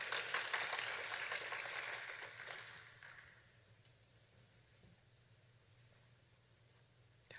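An audience at a church fellowship gathering applauds to welcome a woman who will share her testimony, with dense, steady clapping for about three seconds, then the applause fades out, leaving a low, quiet hum. No one speaks.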